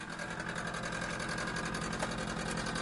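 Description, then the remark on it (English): A kitchen refrigerator motor runs steadily, a continuous mechanical hum with a faint rapid chugging pulse and a bright whine on top, with no voices. “We have a small diesel engine in our fridge, for we South Dakotans eat so much that it requires a special diesel engine to cool everything that we've got.”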